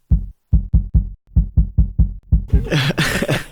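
A muffled heartbeat picked up by a microphone held against the carotid artery on the neck to measure the pulse, a normal pulse during the Bundesliga derby of Schwarz-Gelb against Königsblau (Schalke). About ten quick, deep thumps in a steady rhythm, then loud rustling and scraping as the mic shifts.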